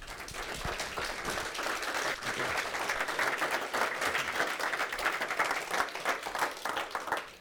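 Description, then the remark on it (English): An audience applauds steadily for several seconds to welcome a speaker, a dense wash of many hands clapping at once, fairly loud and sustained without pause, with no voices rising above it. “Will you give him a warm welcome?”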